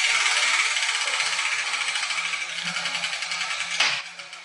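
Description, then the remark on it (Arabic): A letter wheel is spun to pick a letter. It makes a fast, steady clattering rattle that gradually slows, ending in a brief louder burst of ticks before settling on the letter Ra. No one speaks. “نعم حسنا، لنبدأ بتدوير الدولاب.”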